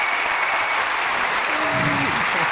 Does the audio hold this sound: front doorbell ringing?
no